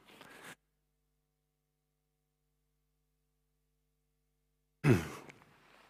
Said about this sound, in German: Jetzt muss ich nur kurz einmal Nase putzen.